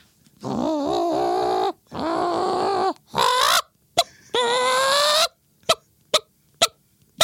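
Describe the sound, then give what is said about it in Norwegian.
A person imitates a hen, giving several drawn-out, wavering squawking clucks followed by a rapid series of short, sharp clucks, loud with no talking. “Så hvis det er hønelyder i Lilyhammer. Er det deg? Det er meg. Få høre høna.”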